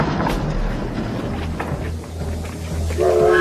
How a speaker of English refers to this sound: Through here, we have the train waiting outside.